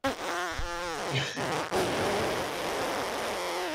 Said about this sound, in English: I did do an elongated fart though.